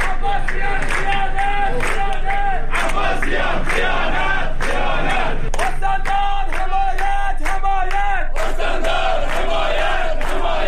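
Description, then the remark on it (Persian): A crowd of protesting workers of the Khuzestan rural water and wastewater company chants loudly in unison in front of the Khuzestan governorate, over unpaid wages, unpaid insurance and contract status, voices rising and falling in a steady rhythmic pattern with scattered shouts and a few claps, continuing throughout. “کارگران شرکت آب و فاضلاب روستایی خوزستان در دور جدید اعتراضاتشان نسبت به تبدیل نشدن وضعیت قراردادها و پرداخت نشدن 3 ماه دستمزد و همچنین پرداخت نشدن 3 سال حق بیمه خود در مقابل استانداری خوزستان تجمع کردند.”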